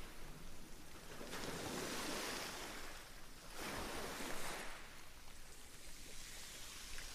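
Ocean waves roll in and break on the shore in a steady wash of surf, with two fuller surges swelling and receding over a constant hiss of water. No voices are heard.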